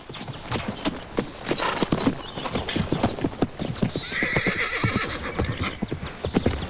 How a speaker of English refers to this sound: At the ranch, Tyler lets the buckskin out of a horse box into an enclosure.